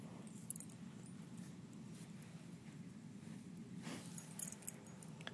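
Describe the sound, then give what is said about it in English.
A dog, Zappy, sniffs at the floor, a few short, soft snuffling puffs over a steady low background hum, with a slightly louder cluster of sniffs near the end. “He's sniffing my floor.”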